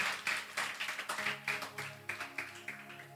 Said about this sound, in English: Give Jesus a hand clap, everyone.